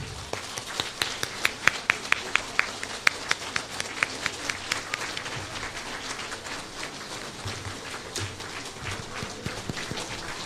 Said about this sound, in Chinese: 现在，让我们用最热烈的掌声恭请尊敬的卢军宏台长。